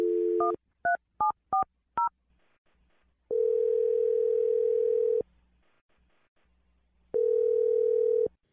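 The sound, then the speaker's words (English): A steady telephone dial tone cuts off into five quick touch-tone beeps as a number is dialed, followed by two long, loud ringback tones separated by a pause. No one speaks. “I'm going to dial Jake's phone number right now.”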